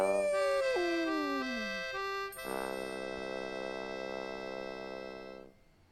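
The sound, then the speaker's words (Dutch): A cartoonish wolf howl, seemingly voiced by a person, as Bor de Wolf, the character from the Dutch TV series De Fabeltjeskrant, with wavering tones sliding downward, then a long, steady, bright held note that fades out near the end. No talking. “Bor de Wolf was dat personage uit de Fabeltjeskrant.”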